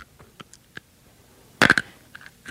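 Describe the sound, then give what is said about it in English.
Crisp crunching of something hard being chewed in the dark: a few faint clicks, then a loud cluster of sharp crunches, followed by softer crackling bites. No one speaks. “we have to get to where we can see each other crunching”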